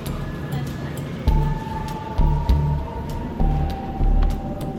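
train arriving

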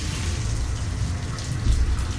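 shower water running

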